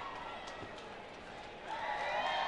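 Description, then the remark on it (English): A large stadium crowd at a baseball game cheers on a pitcher in a steady roar that swells louder and fuller partway through, with a dense wash of many voices and no single voice standing out. “As the crowd cheers him on here.”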